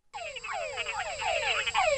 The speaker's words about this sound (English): These little frogs live in Central America, and they're called Tungara frogs. And that's because the call that they make sounds very much like that. It's kind of a Tungara.